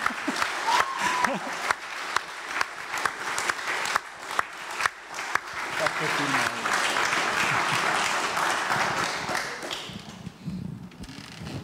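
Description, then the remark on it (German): An audience claps steadily in farewell to a departing member, a dense patter of many hands that swells and holds, with a few distinct claps early on, then fades out near the end. Faint voices mix in briefly. “Wir verabschieden dich mit einem ganz kräftigen Applaus.”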